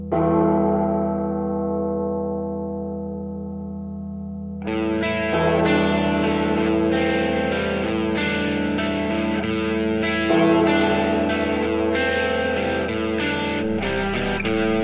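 A single deep church bell tolls and rings out slowly, then a loud, distorted rock band crashes in with heavy guitars and drums. No one speaks.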